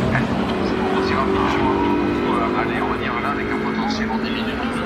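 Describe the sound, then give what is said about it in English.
Porsche race cars pass at speed less than 100 metres from Tête Rouge, not yet braking, their engines roaring loudly and steadily for several seconds, a dense mechanical drone with a faint murmur of voices in the background. “Porsche. Another Porsche.”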